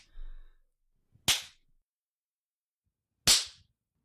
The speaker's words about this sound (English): Watch it jiggle as we give each of our jiggly booties a nice slap.